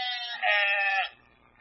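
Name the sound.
sheep bleating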